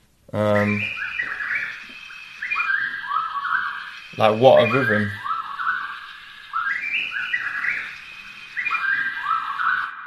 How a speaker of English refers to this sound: You've got to find a rhythm within this, and you probably heard at the beginning a quite significant bird stand out, and I think that's what I looped.